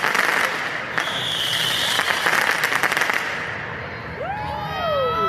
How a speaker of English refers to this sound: people were shooting dozens of commercial-grade fireworks straight into the Justice Center